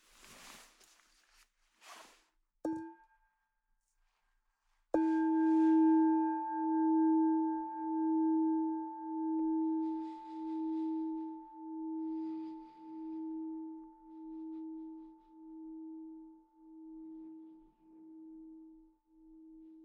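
A meditation bell rings after a few soft rustles and a light tap, its low, warm tone wavering in slow pulses as it rings on and gradually fades over about fifteen seconds.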